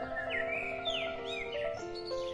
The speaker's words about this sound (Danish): Solskin og fuglekvider, ikke? Og så høj sol, ikke?